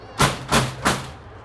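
Three heavy, evenly spaced bangs of a fist pounding on a door, loud and close, each thud ringing briefly before the next, with nothing else sounding in between.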